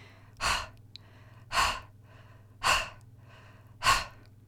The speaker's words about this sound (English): Then they jumped down and ran around the park playing chase. Before long, they were out of breath. Brad could hear himself breathing hard.